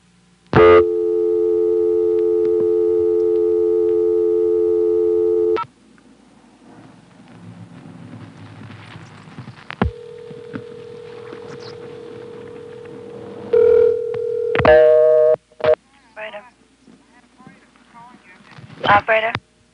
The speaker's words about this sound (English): The next two calls, fast dial tone and all, are to the operator.